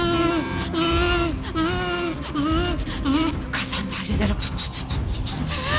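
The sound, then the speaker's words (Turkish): A voice imitates a drill, making a loud, continuous whirring buzz with rising and falling pitch and rough, grinding bursts for several seconds, unaccompanied by other sounds. “Matkap.”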